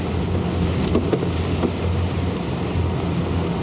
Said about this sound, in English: Pretty breezy out here at Eastern Channel. About a 20-knot wind. White caps, or as they say in England, white horses on the water.